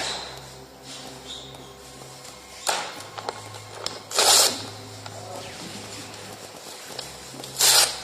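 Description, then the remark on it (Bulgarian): A ballpoint pen scratches across paper in two short bursts of dry, rasping strokes, with faint clicks and rustles between them over a steady low hum. “А това е химикалката.”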